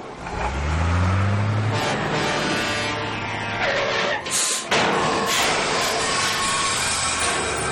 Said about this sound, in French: Le camion poubelle est prêt pour aller vider toutes les poubelles de la ville. Allons-y les enfants, suivons-le.